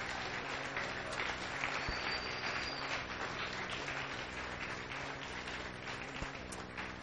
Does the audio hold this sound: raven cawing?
no